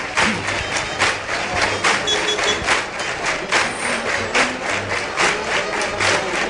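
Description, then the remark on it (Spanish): A large bullring crowd claps loudly and continuously for a bullfighter who has been awarded two ears and is starting his lap of honour, the dense applause swelling in steady, slightly rhythmic waves with a faint murmur of voices underneath. “Pero bueno, ahí tienen ustedes las palmas y David con las dos orejas iniciando la vuelta al ruedo.”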